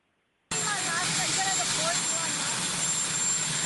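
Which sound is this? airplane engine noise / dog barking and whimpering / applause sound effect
airplane engine noise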